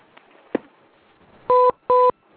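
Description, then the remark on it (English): A pair of loud, identical electronic beeps in quick succession, each a steady two-tone pitch lasting about a fifth of a second, after a faint hiss and a soft click, as a guest caller leaves and the call ends. “And the double beeps, the Philo departs the skies.”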